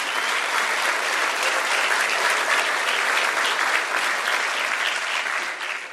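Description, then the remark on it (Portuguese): Sustained audience applause for Brazilian football world champion Jairzinho, a dense, steady wash of many hands clapping at an even loudness for several seconds, fading slightly at the end, with no voices standing out. “Nosso querido Jairzinho, receba os nossos aplausos.”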